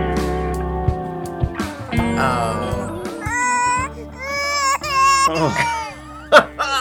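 A baby cries in a series of loud, high-pitched wails whose pitch wavers up and down, building after a quieter start, over a steady low hum.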